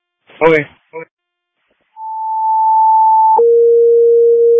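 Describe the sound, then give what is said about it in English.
A brief burst of speech, then CCOM radio dispatch alert tones for Algonquin: a steady high-pitched tone holds for about a second and a half before switching to a lower, loud tone that continues to the end. “Did you hear the tones on your end?”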